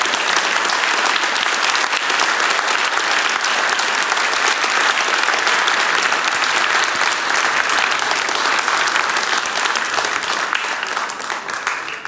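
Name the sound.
audience clapping applause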